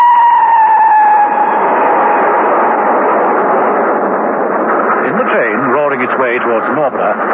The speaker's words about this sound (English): He clutched his briefcase, swaying with the movement of the train.